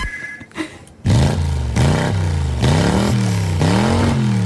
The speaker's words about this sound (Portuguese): Sabe o que é isto? É o som do meu carrinho de compras a aquecer os motores.